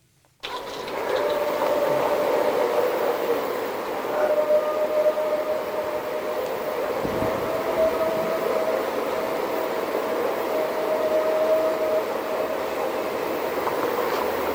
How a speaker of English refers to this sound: Because sure I was only listening for the howling now. I was expecting to hear some like crazy screaming. Yeah, and shit. Yeah. To me, it sounds like not an owl exactly, but then a deeper type voice underneath.